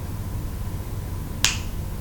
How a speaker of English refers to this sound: Every time you hear me snap my fingers, your cock is going to twitch and tense in pleasure. You feel that? Every time you hear it, it will send a wave of pleasure through you.